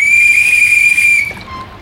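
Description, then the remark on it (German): A single loud, shrill whistle blast, given as a signal to attack, holds one steady high pitch for over a second, then cuts off abruptly, leaving a faint trailing tone. No one speaks. “Ich gebe Angriffssignal.”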